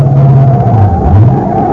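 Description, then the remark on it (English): A car engine runs loud, its low drone rising and dipping in pitch as it revs, with no voices over it. “Stop the car, Pat. Hold it.”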